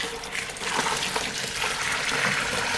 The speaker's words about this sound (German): die Würze, also das Wasser mit den gelösten Malzbestandteilen, aus den Plastikeimern in die Waschkessel zu schütten.